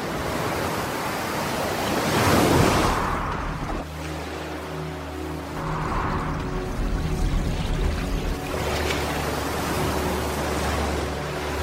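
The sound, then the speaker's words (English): Ocean surf pounding a beach in repeated broad surges, the waves swelling and breaking roughly every few seconds with a steady roar between them, alongside a faint low hum. “Many will drown in the pounding waves.”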